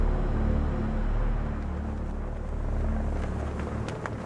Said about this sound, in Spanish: De repente escuché un sonido de hélices y se acercaba cada vez más y más cerca.